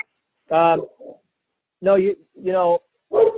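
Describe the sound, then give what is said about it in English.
A dog barks in four or five short, tonal yelps at uneven intervals, fairly loud in a hotel room, with brief silences between the barks. “I'm sorry for the back. I'm in a hotel. I got my dog.”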